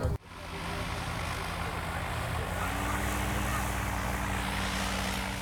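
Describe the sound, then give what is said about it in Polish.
A light propeller airplane drones steadily as it comes in to land on a clear runway at an aviation picnic in Zapolice, wind slightly from the right, its engine a continuous buzzing hum with layered tones that shift slightly in pitch. No voices are heard. “pas wolny, można lądować, kierunek lekko z prawej, ale nie powinien ci przeszkadzać. Dobra, ląduję.”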